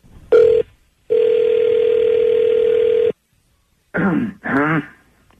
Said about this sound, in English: Okay. I'm going to dial up a cell phone. Here we go, guys.